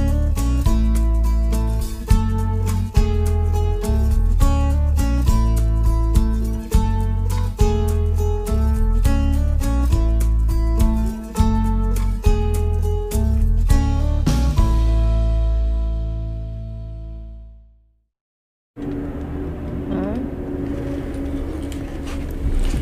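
A folk-pop song plays at steady volume with a rhythmic, strummed feel, then fades out into a moment of silence before quieter background sound starts.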